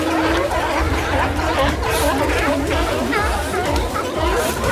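A dense, continuous chorus of hundreds of sea lions crowded together on San Carlos Beach in Monterey, barking and bellowing at once, overlapping calls forming a loud, steady din with no single voice standing out.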